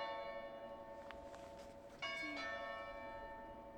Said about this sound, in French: C'était les cloches qui sonnaient. Attendez, elles ressonnent. Et il y a une cloche.